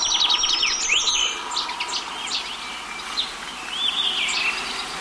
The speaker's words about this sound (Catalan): Raspinell, Kertia brachydactyla. Au resident a les zones forestals de tot el curs del riu.